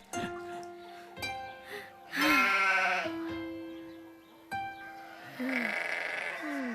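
Sheep bleat repeatedly, with two loud, wavering bleats standing out over a chorus of steadier, drawn-out calls from the flock.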